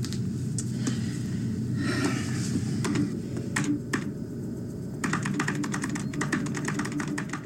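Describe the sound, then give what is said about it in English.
Rapid keystrokes clatter on a computer keyboard in bursts, with a brief pause midway before a dense flurry of typing resumes, over a low steady background hum. “Just use the keyboard.”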